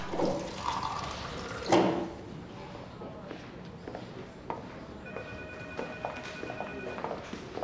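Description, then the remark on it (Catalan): Water pours into a glass, a gurgling trickle with a faint rising ring near the end, over a quiet background hiss and a few small clinks. “es manté estoic i s'omple un got d'aigua.”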